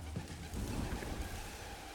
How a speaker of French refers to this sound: C'est on dirait rage. Des coups de tambour. Fort. Ça ronfle. C'est l'orage. Il y a des coups de tonnerre derrière. Boum, boum, boum. Boum.